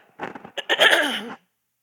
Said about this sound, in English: Here's the story. I'm going to clear my throat.